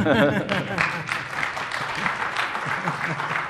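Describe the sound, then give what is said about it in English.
An audience claps during a live software demo of search recommendations, in a steady, dense patter for a few seconds, with a brief voice at the very start before the applause carries on evenly. “It's okay to clap, by the way.”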